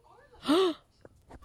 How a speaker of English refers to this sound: Why are you gasping? Because I just came up with the cosplay for SuperCon Saturday.